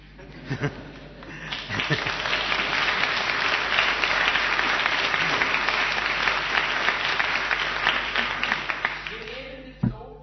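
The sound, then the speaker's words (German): A crowd breaks into steady applause, many hands clapping densely together for several seconds before it fades and stops abruptly. No one speaks over it. “Im Jugendgottesdienst würden wir jetzt klatschen.”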